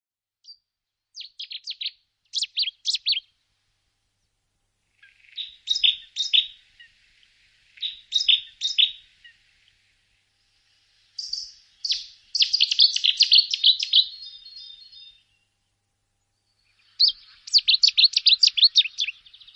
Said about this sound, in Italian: Se la curiosità ti dovesse portare sul retro del centro accoglienza, potrai ascoltare i canti di vari uccelli, tra i quali l'usignolo di fiume.